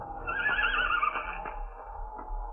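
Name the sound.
horse whinnying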